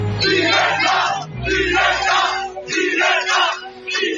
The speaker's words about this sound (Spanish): El acto ha comenzado con estos gritos por parte de los simpatizantes de Vox.